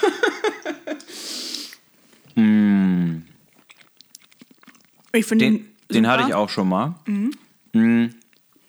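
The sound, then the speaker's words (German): Soft smacking and chewing noises as people bite into and eat a vegan food, between bursts of conversation, with a drawn-out hummed 'mmm' partway through and faint mouth clicks filling a quieter pause. “Jetzt schmatzen wir doch so rum. Ich glaube, wir schmatzen doch ganz schön.”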